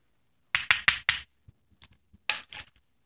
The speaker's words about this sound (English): That sounded like a knock at the door